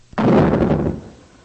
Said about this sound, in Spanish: Cuando todos habían entrado, Dios mismo cerró la puerta.